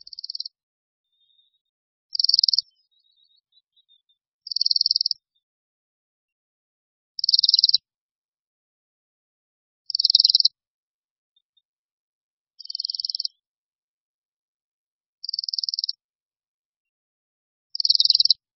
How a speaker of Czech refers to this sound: Ne každou zimu můžeme uslyšet cvrčivý hlas Brkoslava Severního. To je pták velikosti mezi kosem a vrabcem, zavalité postavy, u níž jakoby chyběl krk. Za to hlavu prodlužuje zřetelná chocholka, ležící na temení.